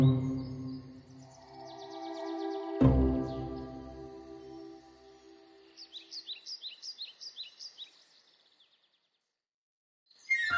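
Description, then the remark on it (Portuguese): A cenzontle, the 'bird of a thousand songs', mimics a kookaburra's laughing call: a rich, harmonic cackle with a sharp burst, then a rapid run of rising, chattering notes that fades into silence before a brief final note. “Também o contagioso riso da cuca-burra.”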